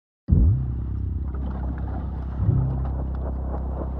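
A car carrying a bomb ball drives steadily away from Västerås, Sweden, toward increasingly sparsely built countryside, with a deep, continuous engine rumble heard from inside, a brief surge in revs midway, then settling back to an even drone with road noise.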